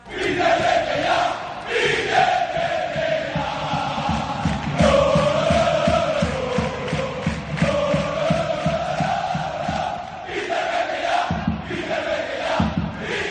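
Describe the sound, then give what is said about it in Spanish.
Valencia football fans at Mestalla chant loudly in unison in protest at club owner Peter Lim, a sustained, rising-and-falling melodic shout driven by a steady rhythmic beat, continuing throughout with no individual talk. “Ayer, en Mestalla, la gente protestó antes y después.”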